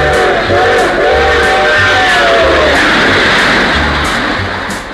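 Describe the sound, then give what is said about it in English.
The 509 train rumbles loudly with a steady, rhythmic clatter as a harmonic whistle sounds during the first half, then the rush of the passing cars continues and begins to fade. “It comes and goes through the middle of the house, and the trains are all on time. And here comes the 509.”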